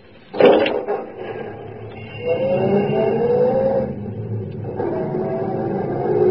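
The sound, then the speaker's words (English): A taxi's door thumps shut, then its engine revs up and pulls away from a Chicago street corner at night, the motor rising in pitch through two accelerations, fairly loud with no voices. “At a street corner, there was an empty taxi. Where to? Just drive.”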